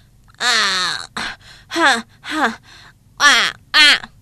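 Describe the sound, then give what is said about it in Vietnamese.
A voice imitates a crow panting heavily, out of breath: about six strained, voiced gasps in an uneven rhythm, fairly loud, separated by short pauses. “Còn quạ tội nghiệp dừng lại thở hổn hển.”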